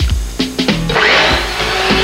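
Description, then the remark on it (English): A chainsaw cutting a wooden object in half: a few short revving bursts, then a steady, loud, airy motor whine with a thin high-pitched tone that holds to the end. “This chainsaw sounds like a blow dryer.”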